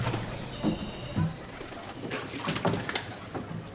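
Birds call repeatedly along a canal in Venice during a gondola tour, soft low cooing notes in short bursts over a steady outdoor background hiss, with a few sharper rustling sounds scattered through.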